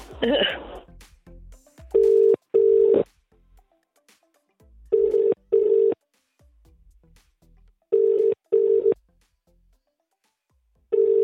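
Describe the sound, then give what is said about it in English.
A phone call to Anton Powers rings out with a steady double-burst ringing tone, repeating about four times at even intervals over quiet line hiss, after a brief rustle and a few faint clicks at the start. “And I've got their number on my phone, so I'm just going to try now, all right?”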